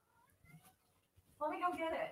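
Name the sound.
kitten meowing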